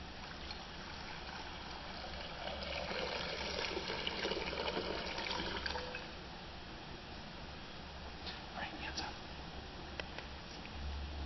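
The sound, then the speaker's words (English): Water pours in a steady stream into a baptismal font during a church baptism, growing fuller for a few seconds before easing into a softer trickle, with a few faint splashes near the end. “Blessed by your Holy Spirit, gracious God, this water.”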